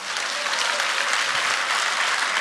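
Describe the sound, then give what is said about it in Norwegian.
A crowd applauds steadily, a dense wash of many hands clapping at once, loud and sustained with no pause and no voices standing out. “Ja, klappe.”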